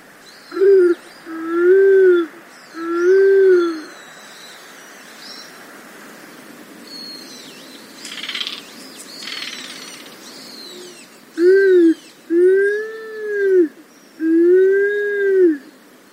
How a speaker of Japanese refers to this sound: それにしてもカラスバトがこれほど近くで姿と声を披露してくれたのは嬉しいハプニングでした。警戒心が強い鳥なのです。